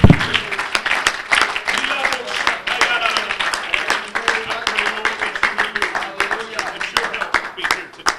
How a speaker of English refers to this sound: Praise the Lord. Would you give the Lord one more hand clap of praise right now?